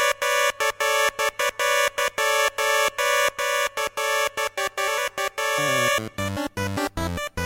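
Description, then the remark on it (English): Shrill, piercing siren-like electronic tone in game theme music, stuttering in rapid repeated bursts, then breaking into a choppy run of stepping notes near the end. No one speaks. “Yeah, it starts off with this just very grating and irritating, shrill, piercing siren kind of noise.”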